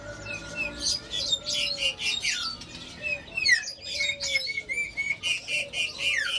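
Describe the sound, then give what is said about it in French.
Many caged songbirds chirp and whistle at once at the Pasar Burung bird market in Indonesia, a dense, busy chorus of high trills and tweets overlapping continuously with occasional sharper squawks. “Et pour en avoir le cœur net, il faut se rendre à Pasar Burung, qui est un marché aux oiseaux”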